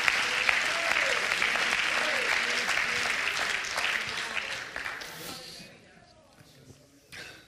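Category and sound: crowd, audience clapping hands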